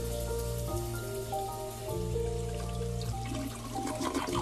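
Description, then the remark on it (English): A toilet flushes with a steady rushing, gurgling swirl of water draining away, over sustained background music that plays throughout. “Of course, there's one in the toilet. There's the drain there, and I'll just flush it.”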